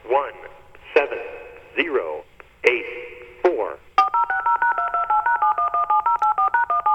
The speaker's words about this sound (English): even with the DTMF tones at the end, that's just no substitute for Numbers Lady